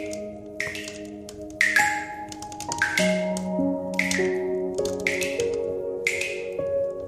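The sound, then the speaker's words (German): A series of about seven bright, watery plops as bright red drops fall from a magic wand held over soup, at a steady, unhurried pace, clear, over soft sustained musical tones. “Danach hält sie ihn ruhig über die Suppe und lässt 7 knallrote Tropfen hineinplumpsen.”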